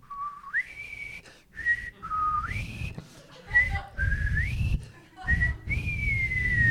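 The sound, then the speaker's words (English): Someone whistles the theme tune from the TV show McCloud, a clear, fairly loud melody in short phrases with sliding upward steps and held high notes, over a low rumbling background. “I like Dennis Weaver, and I like the theme song from McCloud, too. Give me a little taste of it.”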